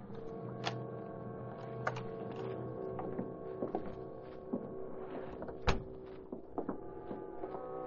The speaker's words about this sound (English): Nor did he hear the noise at the rear door in back of the store as Britt Reed opened it with his special key.